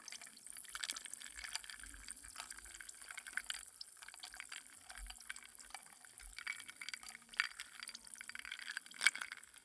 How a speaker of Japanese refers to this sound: 氷の音、大事でしたでしょ？ 涼しくなる音。